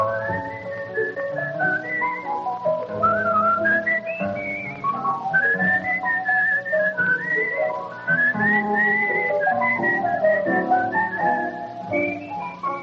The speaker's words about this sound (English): That's all for now, friends. It's time to be whistling along.